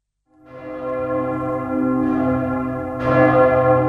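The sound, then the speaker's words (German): The Victory Bell rings from the 46-metre tower of the Douaumont Ossuary memorial at Verdun, with deep, sustained tones and a new strike building on the lingering hum about every second. It sounds resonant, with no voices. “Vom 46 Meter hohen Turm des Beinhauses der Gedenkstätte läutet heute die Siegesglocke.”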